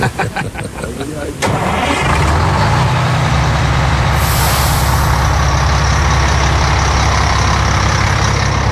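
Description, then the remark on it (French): A big tour bus carrying American tourists at the source of the Jordan River, about to head to the Golan: its engine cranks with a few quick rhythmic turns, roars to life, then settles into a loud, steady rumble, with a sharp hiss of air brakes releasing partway through. “Time to go back to the bus.”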